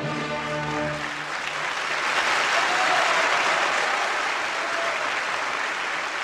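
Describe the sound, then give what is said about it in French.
A large audience applauds steadily and loudly in a dense, sustained roar of clapping that swells slightly and keeps going. A sustained musical chord fades out at the very start. This is the curtain-call ovation at the live-televised farewell of opera director Rolf Liebermann in Paris. “Au moment des saluts, la troupe et le personnel entraînent gentiment Liebermann sur le devant de la scène et c'est sous un tonnerre d'applaudissements que le patron, comme on l'appelle affectueusement, fait ses adieux à Paris.”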